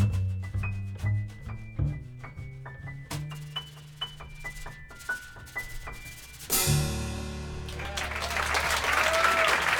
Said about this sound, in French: Les applaudissements du Village Vanguard à New York